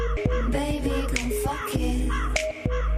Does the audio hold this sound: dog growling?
no